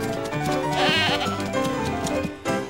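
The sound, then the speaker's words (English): A goat bleats in one long, wavering, quavering cry, loud and alone with no talking, its tone shifting slightly before a brief final push near the end. “The pirates chase the goat round the island until it gets too tired to run and stops under a very tall coconut tree.”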